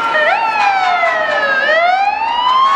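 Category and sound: vehicle, fire truck siren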